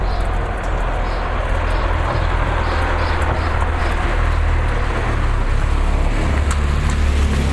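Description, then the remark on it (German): A car drives past parallel on the left at a street crossing while it snows, over a steady, loud rumble of engine and road noise that holds evenly throughout, with no voices. “Aha, der fährt parallel links an uns vorbei.”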